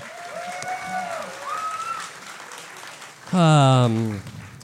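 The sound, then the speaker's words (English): An audience claps steadily beneath whoops and cheers, with a loud, drawn-out shout rising over the applause near the end. “Let's give it up for”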